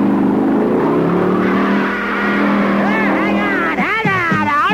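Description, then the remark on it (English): A car engine revs loudly and accelerates, its steady drone climbing in pitch before breaking into quick, wavering swoops as the throttle is pushed hard. “That maggot gets inside and you hit the gun!”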